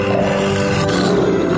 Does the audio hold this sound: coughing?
no